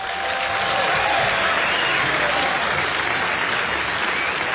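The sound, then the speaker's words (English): Sustained audience applause at a jazz concert for an octet paying tribute to John Coltrane, a dense, steady wash of many hands clapping at an even loudness for several seconds, with no voices standing out. “Thank you very much for your warm applause.”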